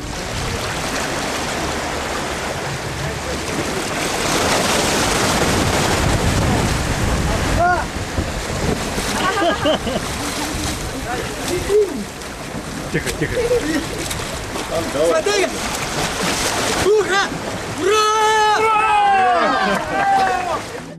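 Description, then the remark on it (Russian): Steady rush of Mediterranean Sea surf at Marseille and churning water with splashing, as people take a dip in the cold seawater on a feast day, calling out and shouting over it, their voices growing louder and more excited toward the end. “мы окунались в холодное в это время года воды Средиземного моря.”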